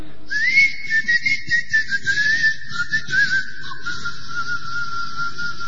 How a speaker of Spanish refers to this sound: Para convocar a los ángeles, Talbot, Edward Kelly Talbot, chiflaba. Decía que la mejor manera de convocar a un ángel era silbar.